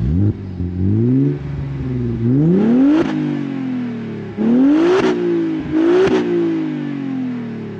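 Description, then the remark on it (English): A powerful car engine revs hard, its pitch climbing through repeated sharp surges with brief drops between gear changes, loud and throaty, no voices over it. “So definitely a pretty beasty engine.”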